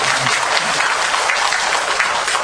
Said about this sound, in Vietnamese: nên cho hai em một tràng pháo tay.